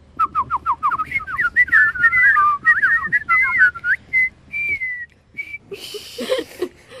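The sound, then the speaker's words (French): People whistling together imitate birdsong: quick, warbling chirps and trills in a steady run, then a few longer held notes, before a brief burst of noisy clatter at the end. “terminons ce programme dans le calme en sifflotant ensemble comme des oiseaux.”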